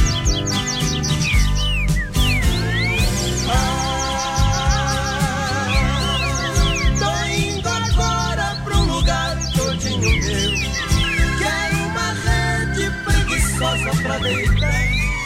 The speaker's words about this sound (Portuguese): Em minha volta, sinfonia de pardais cantando para a majestade sabiá, a majestade sabiá.